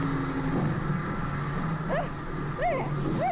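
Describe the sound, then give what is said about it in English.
A small plane with wheels lands on water, its engine droning steadily and loudly throughout, with a few brief warbling, rising-and-falling tones cutting in near the end. “That water sure puts the brakes on the wheels.”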